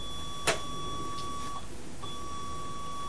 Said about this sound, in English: Oh, I didn't know that beeps as well. Oh, they all make sounds.